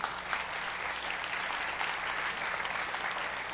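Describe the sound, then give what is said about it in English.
Steady applause from a church audience clapping for Jesus fills the whole stretch, a dense, even patter of many hands clapping at once without any pauses or voices standing out. “Give a clap to Jesus.”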